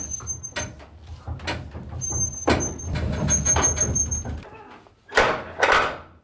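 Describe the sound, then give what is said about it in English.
Mechanical clatter and scraping over a low rumble, with thin high-pitched squeals running through it, ending in two loud, harsh grinding bursts as the brakes engage on an old hand-operated freight lift, worked with a rope, a big pulley and a cable, in an old furniture store. “That's the brakes.”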